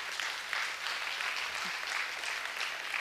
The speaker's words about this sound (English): Amen? You clap. Go ahead.